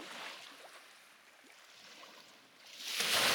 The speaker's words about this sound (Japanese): よいしょ。波の音に助けされそうだけど、ちゃんと私らが動いてる音が聞こえるかな。